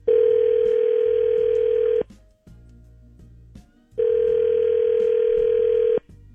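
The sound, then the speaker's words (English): A phone line rings out twice as a caller waits: two steady, buzzing mid-pitched ringback tones, each about two seconds long, separated by a two-second pause with no answer. “Not even voicemail. That's weird.”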